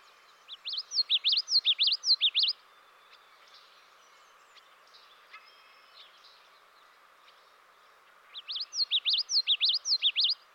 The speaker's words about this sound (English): That's the common yellowthroat, one of the members of the warbler family. It builds its nest close to the ground, hidden in shrubs or tall grass.